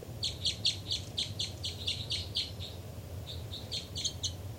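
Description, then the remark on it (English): A bird chitters in a quick series of high, bright notes, pauses briefly, then resumes with a shorter burst, all over a steady low rumble. “318 chitter.”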